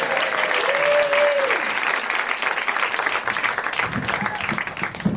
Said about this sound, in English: Let's have a big round of applause for the person who's not normally here running the show.